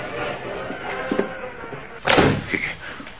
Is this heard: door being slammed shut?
yes